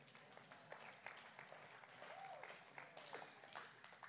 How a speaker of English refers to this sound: Would you clap your hands and say amen?